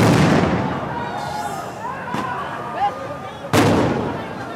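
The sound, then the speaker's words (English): Flash grenades used by Israeli police explode amid a crowd of protesting Palestinians outside the Muslim quarter of Jerusalem's Old City: a loud bang opens, a fainter crack follows, then another sharp blast, each with a reverberant tail over raised crowd voices and shouting. “Israeli police responded with tear gas and flash grenades.”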